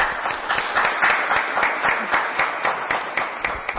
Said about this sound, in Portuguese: Matéria aprovada por 7 votos favoráveis, nenhum voto contrário. Aplausos para vocês.